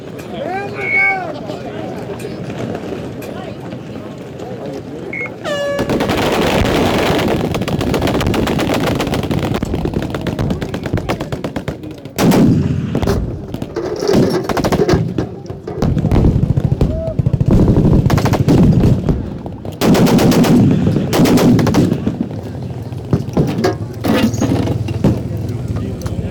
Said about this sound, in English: All right, let's shoot. Let's get to our guns.